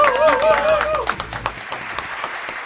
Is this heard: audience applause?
yes